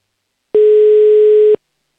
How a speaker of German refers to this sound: Wähle hier schon mal die Telefonnummer. Der Anruf geht nach Oberösterreich.